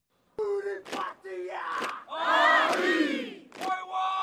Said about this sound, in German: Junge Soldatinnen und Soldaten stampfen auf den Boden, trommeln sich auf die Brust. Sie führen den traditionellen Haka-Tanz der indigenen Bevölkerung Neuseelands auf, zu Ehren der verstorbenen Queen.